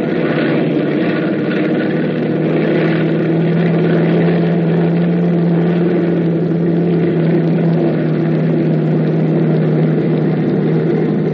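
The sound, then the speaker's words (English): A loud, steady drone of a propeller bomber's engines running continuously before takeoff, a deep humming roar with a rumbling low pitch and no voices over it. “It all starts to add up when the plane takes off.”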